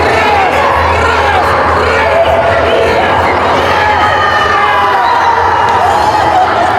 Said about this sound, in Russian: Юных спортсменов подбадривали самые преданные болельщики – родители.